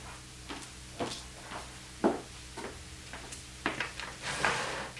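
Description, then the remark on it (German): A drawer slides open, followed by a run of light clattering knocks and rummaging as objects are shifted around inside while someone searches for an electric razor, with no one talking. “Hier in der Schublade vielleicht. Nein, da ist er nicht.”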